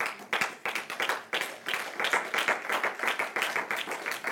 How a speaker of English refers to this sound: Can we give him a hand clap of praise one more time?